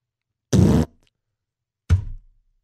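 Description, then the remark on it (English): Two loud fart noises with no talking: a sustained, buzzy blast of about a third of a second, then after a short pause a briefer sputter that quickly trails off. “Fart noise.”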